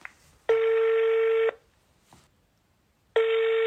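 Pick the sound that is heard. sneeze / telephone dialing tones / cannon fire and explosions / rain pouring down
telephone dialing tones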